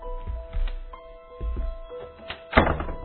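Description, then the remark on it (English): An office door at Manhattan Monthly being shut, with a few soft low thumps followed by a firmer closing thunk near the end, all over a faint steady tonal hum. “Would you mind if I shut the door?”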